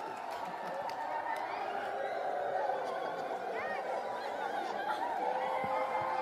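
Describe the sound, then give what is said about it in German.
An audience fills the space with dense overlapping tongue clicks and chirps, practising imitating birdsong in a steady chattering swarm, with bits of murmuring and soft laughter mixed in. “Ja, und jetzt seid ihr bereit, euch das Traumgezwitscher mal anzuhören, wo ihr euch gerade selber schon so eingezwitschert habt?”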